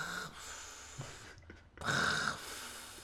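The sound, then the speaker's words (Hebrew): A voice imitates sea waves washing over rocks: rough, breathy whooshes that swell and fade, with a louder surge near the end, sounding close to snoring or snorting. “לא, ניסיתי לעשות רעש של ים, של גן שהולך וחוזר על הסלע.”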